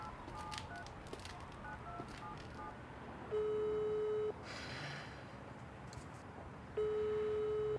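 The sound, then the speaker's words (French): Two steady mid-pitched ringback tones of an outgoing phone call, each lasting about a second with a few seconds of quiet hiss between them, over a low background noise. “Ouais, j'ai un appel à passer juste avant, j'arrive.”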